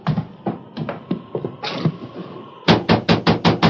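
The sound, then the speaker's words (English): Loud knocking on the wooden door of a ranch house during a storm of wind and rain: a scattered series of raps, then a rapid, heavier burst of about seven blows in a steady rhythm, forceful, with no voices. “We've certainly knocked loudly enough for him to hear.”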